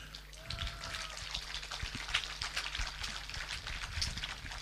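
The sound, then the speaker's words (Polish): An audience at a worship service applauds the person who prepared the service, with steady, dense clapping that holds at an even level throughout, a continuous crackle of many hands with no voices standing out. “Rozumiem, że te brawa były tak się za Krzysztofa, który główny trzon tego nabożeństwa przygotował.”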